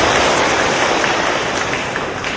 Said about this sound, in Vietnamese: Xin toàn thể quý Phật tử dành cho tràng pháo tay để nghe tiếng hòa thượng.